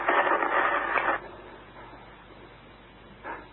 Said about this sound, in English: Static. Nothing but static. Desperately, I twisted it from one end of the band to the other, praying for a human voice, a bar of music. Anything.